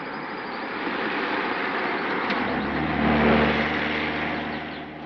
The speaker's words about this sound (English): Here comes the car.